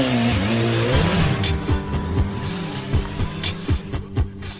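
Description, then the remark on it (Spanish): A motorcycle engine starts up and revs loudly as the ride sets off, its pitch climbing and dropping through several sharp throttle blips over a steady idle rumble, with no voices. “Arrancamos, ponte el casco que empezamos.”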